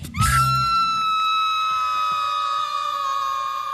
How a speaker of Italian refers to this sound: vuoi dire cos'è questo urlo alla fine? Beh, loro sì, è una metafora, loro si, certo, schiantano sul titolo, diciamo.